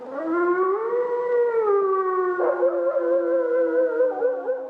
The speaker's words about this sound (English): If that wolf happens to be howling somewhere nearby, well, then some people grow angry. But taken just as raw animal vocalization, it strikes me as archetypal, primal in its essence.